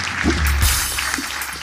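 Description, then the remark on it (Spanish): A short burst of audience applause, a dense steady patter of many hands clapping at moderate loudness for under two seconds, with no voices over it. “Gracias, gracias un aplauso ti, para ti.”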